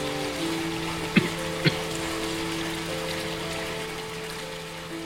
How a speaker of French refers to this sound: Alors, il y a une sale pluie, hein, il fait très gris.